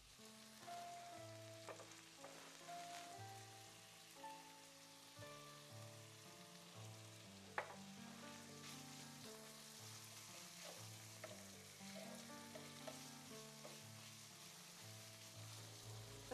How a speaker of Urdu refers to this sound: اور پھر آہستہ آہستہ چمچے کی پشت سے قیمے کو یکساں طور پر پھیلا دیتے ہیں.